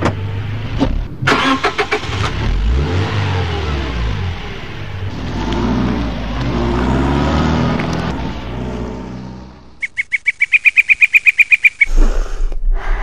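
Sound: car driving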